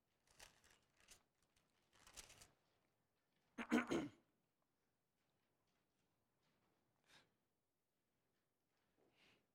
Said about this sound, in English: oh wait, I heard your pages. I like it when I hear pages turning.